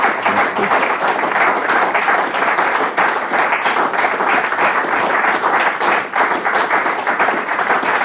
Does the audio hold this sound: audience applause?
yes